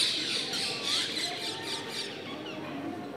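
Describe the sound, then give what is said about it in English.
A dense chorus of birds squawking and chirping continuously at sunset, many calls overlapping into a steady, fairly loud din with no voices. “Birds always sing at sunset and sunrise.”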